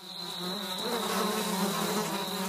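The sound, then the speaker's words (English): A small fly buzzes steadily for the whole stretch, a droning hum with a thin high whine above it. The buzzing stays even, with no voices. “But some scientists are learning a lot from a small fly, lessons that one day could help those with hearing loss.”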